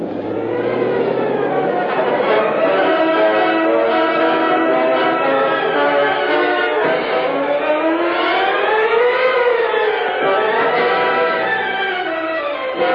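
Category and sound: vehicle, police car sirens arriving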